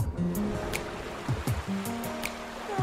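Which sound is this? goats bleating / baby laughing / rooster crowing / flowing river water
flowing river water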